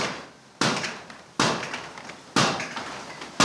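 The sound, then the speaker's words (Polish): A heavy trip hammer with an oak arm and a metal striker of at least 250 kg, about 400 kg in all, pounds a piece of wooden board in a slow, steady rhythm: four loud, sharp thuds each followed by a ringing decay, with no one talking. “Bardzo głośno. Tak, tak, jest, a bije tylko w kawałek deski.”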